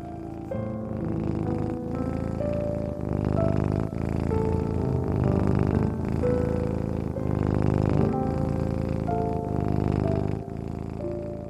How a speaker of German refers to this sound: die kleine Zauberkatze, liegt warm auf deinem Bauch. Sie schnurrt.